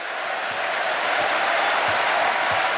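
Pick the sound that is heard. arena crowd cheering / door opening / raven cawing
arena crowd cheering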